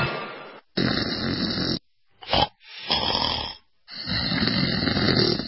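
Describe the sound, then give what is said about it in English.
Loud snoring: a series of harsh, rasping breaths, about five in a row with short silent gaps between them, including one brief snort-like burst in the middle. No one speaks. “Snoring. It's not funny, and it's definitely not normal.”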